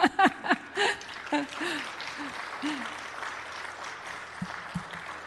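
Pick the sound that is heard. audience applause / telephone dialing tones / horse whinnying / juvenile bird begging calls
audience applause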